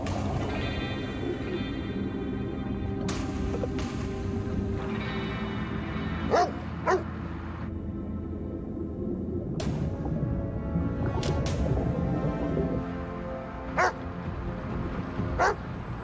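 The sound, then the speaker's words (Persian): A dog barks repeatedly in sharp, irregular bursts, some yelping and whiny, over a steady low rumbling background. No one speaks. “حرف اون سگو بیشتر از من قبول داری؟”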